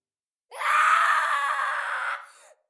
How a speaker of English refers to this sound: I was jerked from my slumber by a blood-curdling scream. My wife and I followed our son's cries for help to the living room,